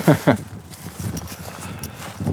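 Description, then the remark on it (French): Hooves of the speaker's sister-in-law's horses, which come over out of curiosity, clip-clop: two sharp, loud knocks at the start, then softer, irregular hoofbeats continue with a faint murmur of voices beneath. “Non, c'est les chevaux, c'est les chevaux, de ma belle-sœur, ça.”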